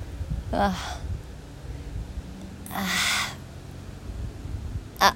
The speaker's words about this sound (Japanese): カラスがちょっと優雅に飛んでてますね。笑ってんのかなあいつ、何うんち我慢してんのみたいな感じ、カラスが笑ってるのかな。